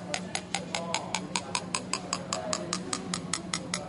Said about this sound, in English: I'm just tapping it there. Now I'm going to put in a spoon of Alka-Seltzer now and stir it up. And now, I don't know whether you can hear that, but the pitch of the sound has gone right down.